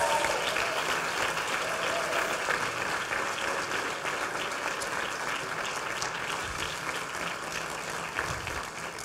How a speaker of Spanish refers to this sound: Vamos a dar un fuerte aplauso al Señor.